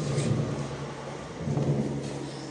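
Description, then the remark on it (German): Trains rumble past, a steady broad roar with a low droning hum running through it, swelling slightly midway and holding loud throughout, with no voices. “Alter, hier kommen gerade so viele Züge.”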